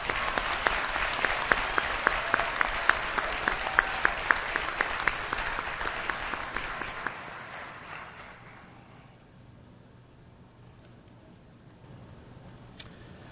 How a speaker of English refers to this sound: Congratulations to all of you. I know you will continue to do great things here in the Elmont School District. Please, a final round of applause.